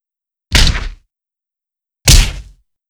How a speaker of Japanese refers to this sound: ほらほら、どうですか？勇者様の腹筋も私のパンチで役に立たなくなっちゃいましたね。弱いパンチでもお腹に響いちゃいますよね。